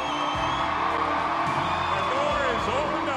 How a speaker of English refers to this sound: this is a historic moment here in Fairbanks, Alaska. Governor Palin was welcomed to Fairbanks with the theme from Top Gun as her campaign jet taxied to a stop in front of a hangar jammed with cheering supporters.